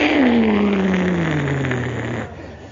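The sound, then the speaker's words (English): A loud jet-engine roar from the JT8D engines of a Boeing 737 being throttled forward at a runway threshold, with a strong whining tone that slides steadily downward in pitch, holding for about two seconds before cutting off abruptly. “I'm looking up at him, he's looking down at me, and in an attempt to intimidate me, the guy in the big jet takes a handful of JT8D 20,000 horsepower thrust engines and cobs his throttles forward.”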